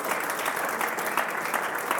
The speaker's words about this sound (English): Somebody give the Lord a hand clap of praise this morning. He's so good.